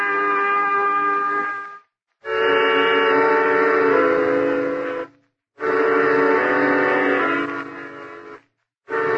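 A moving train's whistle sounds in three long, loud, steady blasts separated by brief pauses, with a low rumble beneath and no voices.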